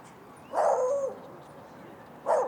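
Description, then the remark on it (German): A dog barks twice outdoors at a lake: first a longer, drawn-out bark, then a short one after a pause, over faint ambient background noise. “Wir hören einen Hund.”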